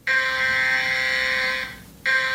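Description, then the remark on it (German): A loud, harsh electronic warning tone from a nationwide siren test at 11 o'clock holds one steady buzzing pitch for about a second and a half, drops out briefly, then starts again abruptly. No one speaks. “Um 11 Uhr ertönen Warnsirenen im ganzen Land und auf dem Handy.”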